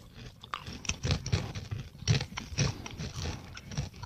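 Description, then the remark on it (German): Crunchy rectangular corn tortilla crisps with a vinegar-like seasoning being chewed in a steady series of crackly bites, with sharp bursts of crunching repeating roughly every half second and no voices. “Ja, es ist halt so ein bisschen wie diese Essigchips, ne? Salt and Vinegar.”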